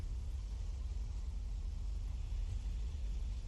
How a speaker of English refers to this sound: Actually, yeah, we're getting a little bit of rain right now. Weeks. A little bit. That was probably a thunder you heard.